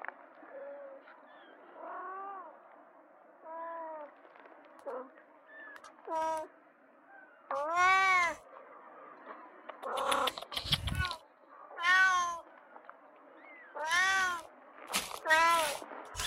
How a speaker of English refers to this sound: I'm looking for a kitten here. I can hear squeaks. And they seem to be right beside the fire.